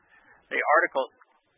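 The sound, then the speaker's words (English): An Amazon Echo smart speaker's voice assistant gives a brief spoken reply, saying "I don't know about that one", a short phrase lasting under a second, thin, with no other talk around it. “I have a Amazon Echo behind me, and when I said $4.5 trillion, it responded by saying, I don't know about that one.”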